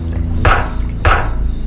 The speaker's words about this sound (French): revient derrière et voit un tueur en série taper contre la porte arrière de la fourgonnette avec la tête de son mari. Ça me fait super peur. Mais est-ce que ce ne serait pas plutôt le pot d'échappement qui entre au niveau du pot d'échappement?